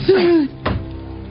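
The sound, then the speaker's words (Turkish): A guillotine blade drops with a single heavy, dull thunk as a convict is executed, preceded by a brief wavering vocal cry, then a low fading rumble. “İşte bir suçlu daha giyotinle idam edildi.”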